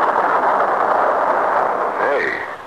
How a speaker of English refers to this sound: The weather report was right that day, and a little after 9 o'clock, it began to rain.